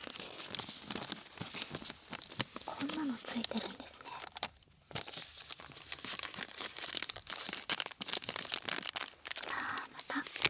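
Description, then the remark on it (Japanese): Crinkly protective plastic film being peeled and torn off a new racket, a continuous papery rustle with sharper crackles, while a woman speaks softly over it. “新品の膜を破る音。”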